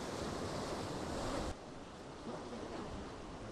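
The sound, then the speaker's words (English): Ocean surf rushes right up to the mouth of a sea arch, a steady, full-bodied roar of churning water, easing slightly about halfway through, with some wind buffeting and no voices. “And you see the surf is coming right up to the mouth of that arch.”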